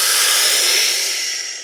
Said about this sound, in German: Und in 3 Sekunden atmen wir gemeinsam ein. 3, 2, 1. Tiefen Atemzug ein, vollständig ein.